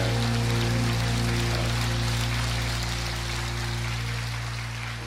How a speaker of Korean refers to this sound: 나의 삶에 어제도 오늘도 그리고 2024년 한 해 은혜를 베풀어 주시를 우리 하나님 앞에 감사와 영광의 박수를 올려드립니다.